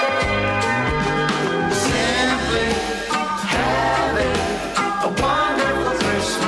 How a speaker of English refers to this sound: Listen to the steel drums.